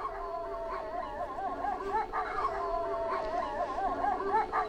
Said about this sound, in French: Tous les loups grognaient contre le crocodile.